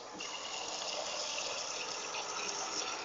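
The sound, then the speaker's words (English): Drinking water pours steadily into a container, a continuous rushing, splashing stream that runs for a few seconds without a break and with no voices over it. “So I'm getting some water.”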